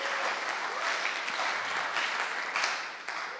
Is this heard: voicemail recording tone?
no